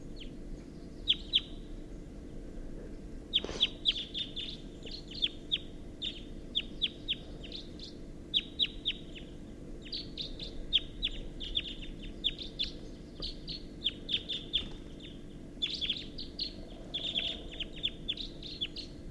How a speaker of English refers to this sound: Recording, there's some wild birds here. It's 6:14 a.m. and there's at least a pair. And they're calling from the oak tree, and there's one in the oak tree, and that's a wild bird. Wild bird.